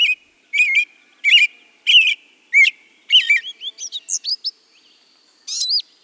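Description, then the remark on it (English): A songbird sings a lively, varied song of whistled, warbling phrases in quick bursts, clear, with short pauses between notes and no other sounds around it. “Nothing will bring wondrous songbirds to your yard faster than a ready supply of water.”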